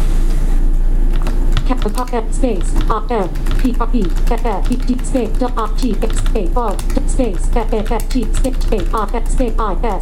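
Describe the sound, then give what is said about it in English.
Rapid clicks of typing on a keyboard as text is entered into the text field of a new file, with a voice talking over them for the whole stretch, the taps steady. “And the cool thing is it goes right into a text field where you can start typing.”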